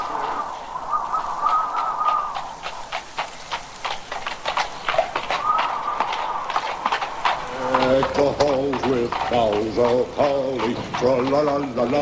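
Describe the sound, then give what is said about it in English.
Horse hooves clip-clop at a steady, even trot as a horse pulls a one-horse open sleigh, clear from start to finish, with a person talking over the hoofbeats through the second half. “singing and talking, pulling us to the weekday holiday party.”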